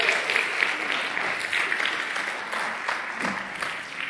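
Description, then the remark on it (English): An audience claps steadily in praise to God during a sermon, dense overlapping handclaps forming a sustained wash of applause from a sizable crowd, fairly loud and continuous with no speech over it. “Somebody give God a great hand clap of praise for that.”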